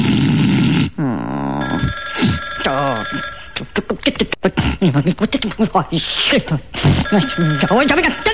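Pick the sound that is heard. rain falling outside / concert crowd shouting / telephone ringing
telephone ringing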